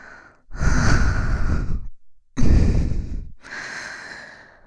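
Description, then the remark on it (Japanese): Slow, warm breaths exhaled right up against the microphone: two long, loud, airy exhales separated by a pause, then a third, softer one trailing off, with no talking. “私の熱い吐息を感じるだけでカウパー出まくってるでしょ。”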